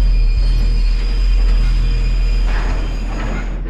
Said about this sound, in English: And we could feel the train coming under our feet because when the train moved, it's so heavy, it was moving the soil. Anyways, we saw the train coming and we just hoped it would stop.